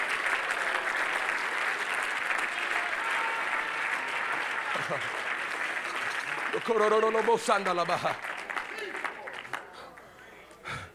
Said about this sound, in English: Do you really believe that? Come on, if you really believe that, somebody clap your hands unto God.